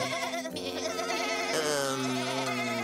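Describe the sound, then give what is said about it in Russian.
A goat being examined at a veterinary check-up bleats loudly in a sustained, wavering cry, breaking briefly and then continuing in a strained, quavering tone with no other sounds. “эти козы – животные. Они не разговаривают.”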